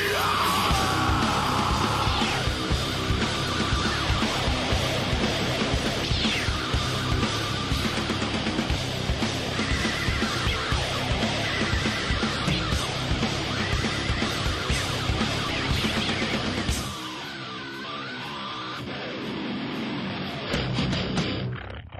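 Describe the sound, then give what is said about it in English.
Loud, chaotic screaming and yelling as a big, flashy intro to a War Bucket Audio show, a dense, energetic burst of noise with shrill whinny-like cries over a roaring backdrop, dropping off near the end before a brief final surge. “I've always just wanted a big, flashy intro with lots of loud screaming.”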